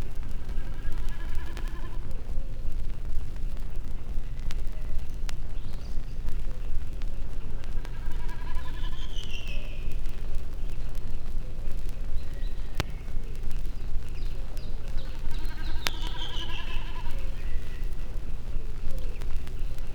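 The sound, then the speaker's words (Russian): A snipe drums repeatedly high in a blue sky, each dive vibrating its tail feathers and producing a quavering, bleat-like tremolo like a lamb bleating that rises and fades, heard several times over a steady low background rumble. “словно барашек блеет. Это высоко в голубом небе торгует бекас.”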